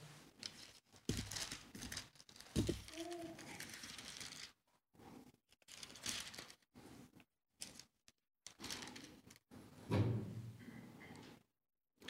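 Pages of a book being turned, with several bursts of crisp, rustling paper and soft handling thumps separated by brief pauses. Quiet overall, with no voices.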